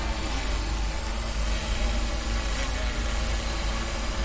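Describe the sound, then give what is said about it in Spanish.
Drones flying over the Ciudad de las TIC give off a steady, dense mechanical drone, a continuous buzzing whir with a heavy low hum underneath that holds at an even, fairly loud level throughout. “Y no es el de grandes velutinas, de momento solo suenan en la ciudad de las TIC y son drones.”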